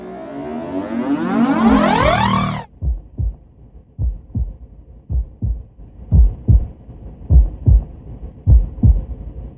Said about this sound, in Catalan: Jo sóc el cor. Em fas notar sempre mitjançant els batecs. M'heu escoltat algun cop, oi? I tant! I alguns cops que bategues més lent, en canvi d'altres que més ràpid.